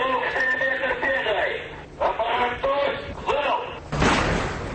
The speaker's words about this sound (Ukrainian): Робили залпи корабельні артилерійські установки, стріляли великокаліберні кулемети на бронетехніці, не шкодували патронів і для стрільби з автоматичної стрілецької зброї морські піхотинці.